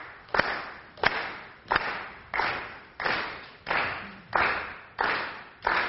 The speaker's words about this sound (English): I need you to either, you can either pat your leg, or you can pat your shoulder, or you can clap, I don't care. We'll just keep a nice steady beat.